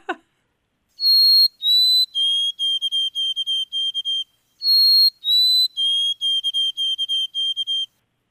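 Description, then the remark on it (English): An adult white-throated sparrow sings two clear, whistled songs, each opening with long pure notes that step down in pitch, then a steady run of short repeated high notes. “the young white-throated sparrow has kind of a tentative rhythm and a little bit of a squeaky voice”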